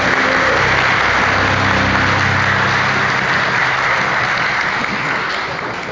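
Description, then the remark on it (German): A large audience claps and shouts as loudly as it can when asked to, a dense wall of applause with some shouting mixed in, holding at full volume throughout and only easing slightly at the very end. “Können Sie mal so laut, wie es geht, klatschen oder rufen oder trommeln oder was auch immer Sie machen?”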